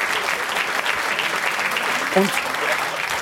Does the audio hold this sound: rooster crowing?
no